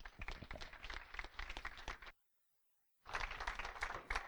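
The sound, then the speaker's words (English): An audience applauds Pastor Barry, a visiting pastor invited to preach, with dense, steady clapping that cuts to silence for about a second, then resumes just as loudly. No one speaks. “So let's give Pastor Barry a round of applause.”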